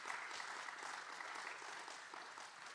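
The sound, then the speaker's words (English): An audience claps steadily for the speaker's wife, a dense patter of many hands at a fairly even level, with no voices standing out over the applause. “Can we clap our hands for my wife?”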